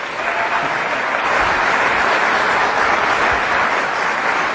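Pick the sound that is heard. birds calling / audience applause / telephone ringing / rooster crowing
audience applause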